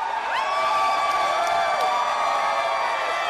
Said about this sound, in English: Everyone cheered as the results came in.